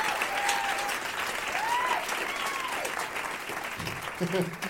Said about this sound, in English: And let's have a big round of applause for all of my guests